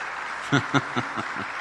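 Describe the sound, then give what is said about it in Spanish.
An audience applauds the Lord during a Spanish-language sermon in a steady, dense wash of clapping, while about five rhythmic vocal bursts, like laughter or cheering, rise above it and fade out. “Por favor, vamos a dar un aplauso al Señor por eso.”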